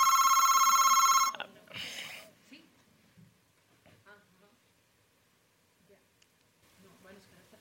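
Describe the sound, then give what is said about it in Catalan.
A loud, bright telephone ring sounds for about a second, then cuts off into a brief rustling burst, followed by quiet talking. “Home, no, els telèfons apagats. Qui? És vostè? No, el telèfon, sisplau.”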